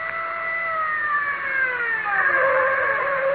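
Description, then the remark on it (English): A car comes to a stop, its engine whine sliding steadily downward in pitch over a few seconds. It is fairly loud, with no voices. “Now stop the car.”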